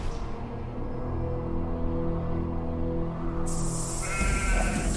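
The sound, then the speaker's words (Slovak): Sheep bleat loudly, long wavering calls overlapping one another, with a higher-pitched bleat breaking in near the end. No one speaks. “Malý beduínsky pastier bol vonku so svojimi priateľmi, pásli ovce a hádzali kamene, ako to chlapci robievajú.”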